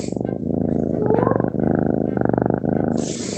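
A female kitten purrs loudly while being played with, a steady rumbling that swells and eases in rhythmic waves, with brief rustling at the very start and end.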